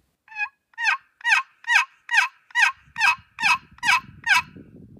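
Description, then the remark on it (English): A box call used for turkey hunting imitates an old hen turkey's yelp: about ten loud, raspy, evenly spaced notes in a steady rhythm, with some low rumbling handling noise toward the end. “That's just an old hen's yelp.”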